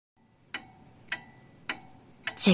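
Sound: pendulum wall clock ticking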